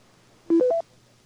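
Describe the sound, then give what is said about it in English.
Three short DTMF touch-tone beeps in quick succession, dialing a pager, each a steady electronic tone slightly higher than the last, sounding clearly over a quiet background with no talking. “Let me beep his pager.”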